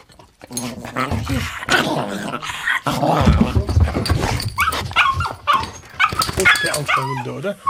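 dog barking and whimpering

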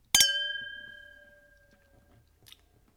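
wine glasses clinking

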